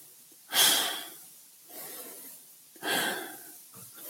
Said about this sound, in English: As you draw the air in, you can draw it in with power, but not force. That's it. It's a smooth power.